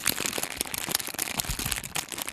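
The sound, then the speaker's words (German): A simple plastic bag is crinkled continuously, making a dense, crackling hiss of tiny pops and rustles that mimics fried eggs sizzling in a pan, as dubbed in cheap 1970s film productions. It stays steady and fairly loud throughout, with no voices. “Ist ja auch nur eine einfache Plastiktüte gewesen, mit der ich gerade das Geräusch erzeugt habe.”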